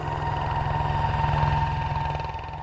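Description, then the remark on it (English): An electric solar plane in flight: a steady electric motor whine with a low, rhythmically pulsing propeller drone, holding an even pitch and loudness throughout and fading slightly at the end, with no voices. “Electric mobility. This is what it sounds like in the air.”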